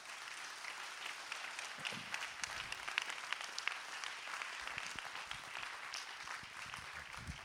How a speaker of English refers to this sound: Would you give the Lord a hand clap?